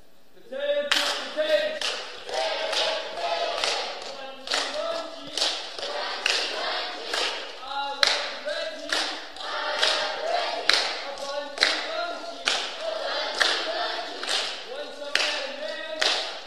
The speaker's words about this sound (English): Take us home. Here we go. One last cheer tonight.